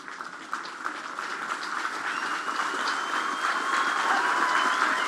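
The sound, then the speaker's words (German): A crowd bursts into dense, sustained applause, a steady wash of many hands clapping that swells gradually louder over several seconds, with no voices heard, as a translator reads Pope Francis's apology in English to members of the First Nations, Inuit and Métis. “Applaus braust auf, als der Übersetzer die Worte von Papst Franziskus auf Englisch vorliest.”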